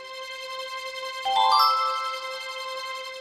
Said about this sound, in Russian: Буратино вставил в замочную скважину золотой ключик. Раздался нежный звон, и дверца открылась.